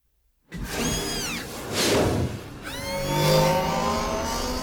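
A city bike's engine is kicked into life and revs hard, its pitch climbing in two rising sweeps as it shoots off into the Coruscant sky, loud with a whooshing edge and no voices.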